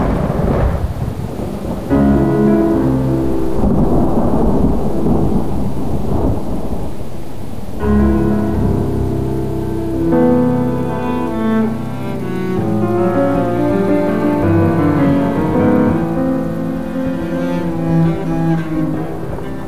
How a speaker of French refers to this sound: Vers minuit, comme nous continuions à veiller, l'orage se déchaîna sur Hurlevent de toute sa fureur.